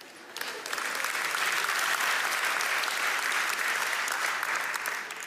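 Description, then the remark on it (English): An audience claps steadily for about five seconds to applaud those among them with five or more kids, a dense, even patter of many hands that swells quickly at the start and tapers slightly at the end. “Let's applaud the brave.”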